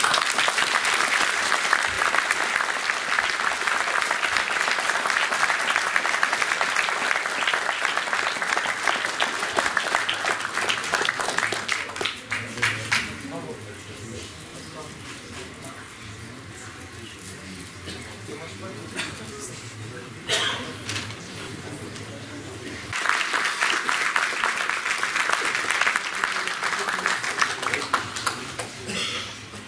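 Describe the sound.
A large audience at a pétanque tournament bursts into loud, sustained applause as a trophy is presented, which fades to a quieter stretch with some voices before a second strong wave of clapping rises near the end.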